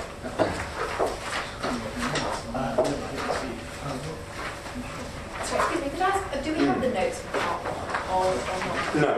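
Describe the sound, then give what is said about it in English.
Chairs are carried into a room with irregular knocks, scrapes and clattering bumps, while people murmur and talk indistinctly in the background throughout. “I'll just wait till the chairs come in.”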